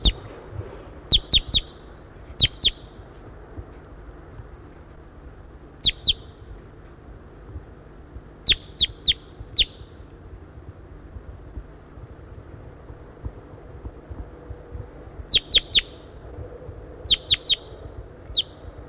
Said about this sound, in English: Recording, I hear a wild crossbill around. I see two birds perched in a dead tree, a dead Table Mountain pine tree off to the northeast of the net site here